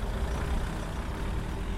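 Heavy vehicle engines rumble low and steady as the vehicles pull up in a car park, a continuous idling drone with a broad hiss on top and no clear pauses or voices.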